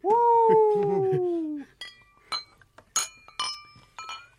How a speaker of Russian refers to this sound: С чем мы вас от всей души поздравляем, поднимая в нашем живом и в вашем свободном новом эфире бокалы с шампанским. Коллега, пробку в потолок!